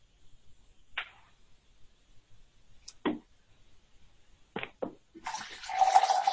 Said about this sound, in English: I'm not peeing. Pouring a seltzer.